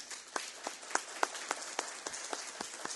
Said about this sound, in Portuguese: Peço aqui, meus colegas vereadores, respeitosamente, uma salva de palmas para a Associação de Voluntários de Santa Maria de Itibá.